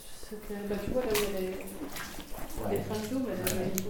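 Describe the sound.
Water rushes and gurgles steadily as a strong flow drains away, the water level now much lower, a constant watery hiss with occasional sloshing bursts, running underneath people talking throughout.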